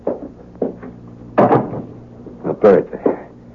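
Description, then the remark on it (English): A door is pushed shut: a handful of wooden knocks and clunks over a few seconds, with a heavier thud in the middle and a low background hum underneath. “Let me close the door, huh?”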